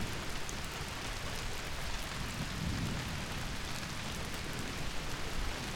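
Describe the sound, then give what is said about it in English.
Steady, dense rainfall hisses continuously while a low, distant rumble of thunder rolls underneath, swelling briefly midway before fading back into the downpour. No voices are heard. “Wow, this storm is getting extremely chaotic.”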